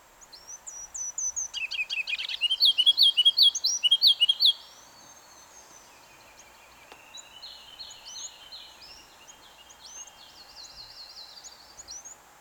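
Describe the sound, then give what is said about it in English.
A ruby-crowned kinglet, a tiny songbird, sings a bright, tumbling song: high thin notes followed by a louder run of rapid repeated phrases, then softer varied warbling continues, alone over faint background hiss. “And that is a ruby-crowned kinglet.”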